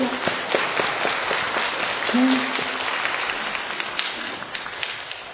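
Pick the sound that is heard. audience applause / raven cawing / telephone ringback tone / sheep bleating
audience applause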